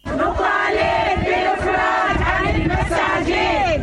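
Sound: protest crowd chanting slogans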